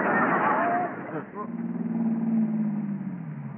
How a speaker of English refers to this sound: Well, here comes that same car again. Now, that guy's been following me for an hour now.